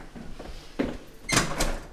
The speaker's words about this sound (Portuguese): Já está fechada a porta.